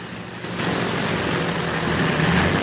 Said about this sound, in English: Jim and Hap pull down their goggles and give each other the thumbs up. Then their planes start to rumble across the grass.